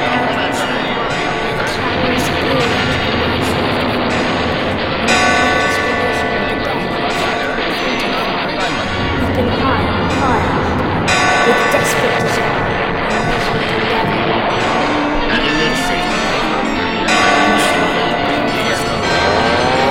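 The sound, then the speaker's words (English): Loud alarm bells clang over and over amid a dense, roaring din, with fresh strikes ringing out every few seconds and voices mixed into the chaotic noise. “Hear the loud alarm bells, brazen bells.”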